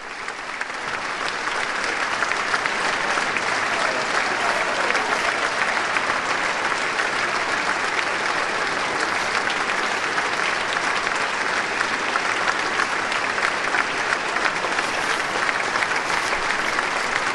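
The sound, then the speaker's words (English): Sustained applause from members of the US Congress as the President arrives at the podium, a steady dense wash of clapping that holds at an even, loud level for the whole stretch without pauses or voices breaking through. “He's acknowledging the applause of the members of Congress in the audience, and he should be beginning very shortly.”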